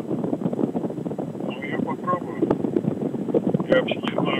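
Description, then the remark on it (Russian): Steady, muffled rumble of a moving car heard through a phone line, a dense low roar with wind-like hiss that never lets up, and faint indistinct voices buried underneath. “Ну как я могу убрать шум, если я в машине?”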